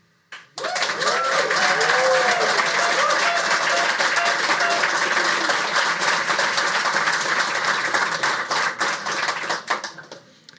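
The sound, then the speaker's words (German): A crowd bursts into loud applause and cheering, dense clapping with voices shouting over it, sustained for about ten seconds before tapering off at the end; the audience cheers to show it believes football club Mainz 05 can still be rescued. “Nachdem wir die Stimmung runtergezogen haben, würde mich interessieren, wir machen das per Jubelbarometer. Wer glaubt denn an die Rettung von Mainz 05?”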